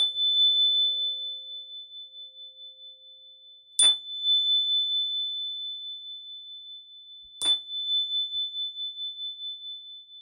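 Three chimes ring out one at a time, a few seconds apart. Each bright strike leaves a long, steady ringing tone that slowly fades before the next. No voices.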